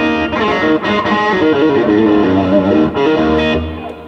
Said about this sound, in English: So basically, with every rig, I'll always have a tube screamer for some extra gain.